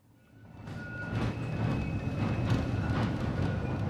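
A tram rolls in at the Bankverein stop in the banking quarter of Basel, Switzerland, with a low rumble that builds, steady tonal whines riding above, and a few sharp clanks and hisses as it brakes to a halt.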